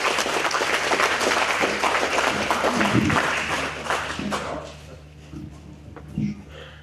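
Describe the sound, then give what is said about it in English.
A crowd applauds with dense, steady clapping for about four seconds, then the clapping thins out and fades to a few scattered claps and quiet murmur. “Thanks for the time, folks, and good round of applause.”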